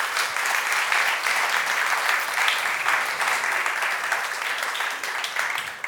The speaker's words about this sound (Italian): vi chiedo di accoglierlo con un applauso.